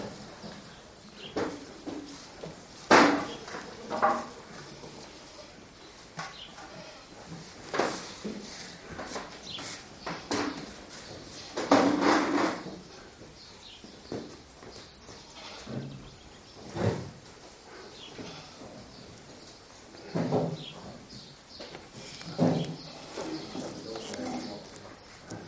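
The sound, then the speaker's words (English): A goat bleats several times at irregular intervals, short strained cries rising over a low background of shuffling noise. “Just don't worry about that goat. It'll be all right.”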